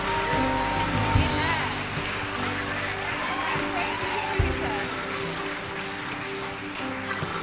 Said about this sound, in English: Why don't you give the Lord a mighty hand clap of praise?